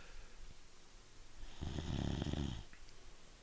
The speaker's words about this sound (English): Big ol' yawn.